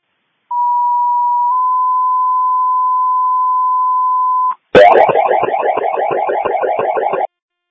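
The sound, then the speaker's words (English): A Harrington Fire Department pager alert sent as a cancellation page for a false fire alarm at Harrington High School: a long, loud steady tone that steps slightly higher midway, then a brief gap and a harsh, rapidly pulsing warble alarm for a couple of seconds. No voices. “If you can send out a cancellation page, please.”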